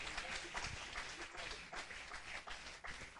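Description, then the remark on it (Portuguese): An audience at a Portuguese-language church service applauds the Lord for the word of God, dense, steady clapping throughout, a bright crackling wash of many hands with no break, and a faint murmur of voices mixed in. “Você pode aplaudir ao Senhor por ela?”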